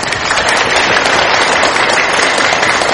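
Loud, sustained applause from a large audience at a Buddhist dharma talk, a dense wash of many hands clapping at once that stays steady and full throughout without any talking.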